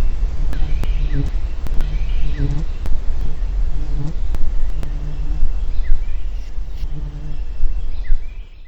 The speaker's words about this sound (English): Second, the buzzing of a deer fly.